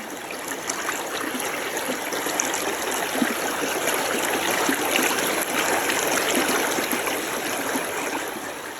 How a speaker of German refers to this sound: Stellt euch vor, es ist ganz warm und lauscht einfach mal diesem wunderbaren, herrlich frischen Bergflusswasser, wie es da so entlang plätschert.